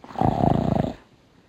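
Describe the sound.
A voice imitates a loud snore: one rattling, throaty snort lasting under a second, forceful, with no talking around it.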